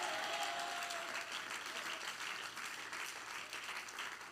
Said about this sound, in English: Everybody clap your hands and somebody shout, yes!